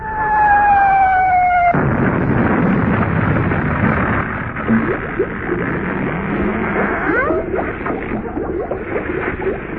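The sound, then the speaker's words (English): A naval shell fired by the home fleet whistles in on a falling pitch, then slams into a building, through the Admiral's bar, with a loud blast, followed by several seconds of rumbling, crashing debris and crackle. “Bullseye. Smack bang through the Admiral's bar.”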